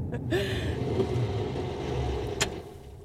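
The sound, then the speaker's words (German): A car engine runs with a steady, low rumble, broken by a few brief mechanical clicks and a short high squeak near the end, with no voices. “Fährst du den Wagen nicht gleich in die Garage”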